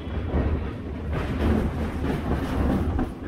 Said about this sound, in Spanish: Poco a poco, el histórico tren de tres coches se separa de la calle, y cual ratón huyendo del gato, penetra entre muros de hormigón que parecen resquicios por donde intenta escapar.